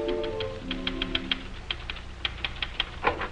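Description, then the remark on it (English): A manual typewriter clacks away in quick, uneven bursts of sharp keystrokes, fairly loud, as someone busily pounds it in Dr. Christian's office, while a brief sustained musical tone fades out at the very start. “Christian's office, where Judy is busily pounding the typewriter.”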